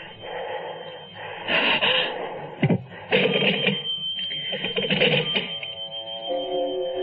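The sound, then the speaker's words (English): A home landline telephone rings in repeated bright, jangling bursts, fairly loud, with brief gaps between rings and a steady tone trailing at the end. “Why be frightened of a silly telephone?”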